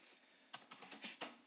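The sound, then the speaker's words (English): Typing on a computer keyboard: a short burst of five or six crisp, uneven clicks over a steady low hiss, with no voices. “Why are you typing?”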